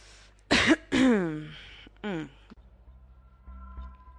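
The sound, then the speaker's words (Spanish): A person coughs several times, with two sharp coughs followed by a throaty, drawn-out cough and one more short one, then a low mechanical hum remains. “Luego, el moco y las partículas que llevan atrapadas son deglutidas o expulsadas al exterior por medio de la tos.”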